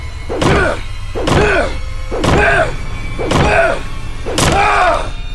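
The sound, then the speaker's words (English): Five heavy, booming blows strike a door in a hotel at a steady pace, about one per second, each a loud resonant thud with a ringing tail, as a bat bangs on it violently. “while I stood against the wall with a kitchen knife, watching Ace bang violently on the door with his bat.”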